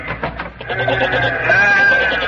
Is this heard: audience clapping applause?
no